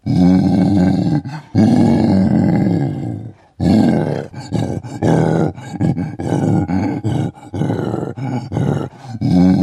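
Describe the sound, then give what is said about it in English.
A gorilla roar sound effect from an audio game's learn-game-sounds menu: two long, loud, deep roars, then a rapid series of shorter guttural grunts and growls, with no talking. “Gorilla.”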